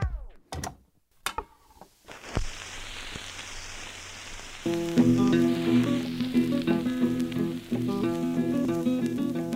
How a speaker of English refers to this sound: One of the things that became really fascinating to me about listening to old recordings is actually how hard it is initially to really listen through the crackle and through the bad sound of a worn old 78 record.